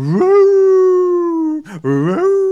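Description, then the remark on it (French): A voice imitates a wolf howling: a long, loud, sustained wail rising then holding steady, a brief gasping break, then a second rising wail. “» Alors le loup se met à pleurer.”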